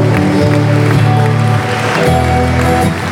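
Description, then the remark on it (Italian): An audience claps steadily in praise to the Lord, a dense wash of applause running the whole time beneath loud, sustained keyboard-like chords that shift pitch partway through. “Un applauso al Signore.”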